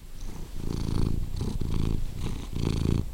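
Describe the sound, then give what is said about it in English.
A cat named Paris purrs at Lazy Cat Gardens in a steady, rumbling rhythm, each low vibrating pulse swelling and fading with its breaths, with no voices present. “That's Paris the cat.”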